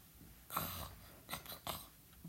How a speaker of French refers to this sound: Ça y est, il ronfle.